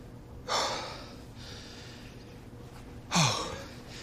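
A man breathes heavily and audibly at close range, with two loud, drawn-out exhalations like sighs a few seconds apart and softer breaths between them in a quiet room.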